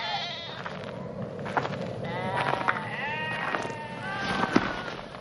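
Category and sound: animal, sheep bleating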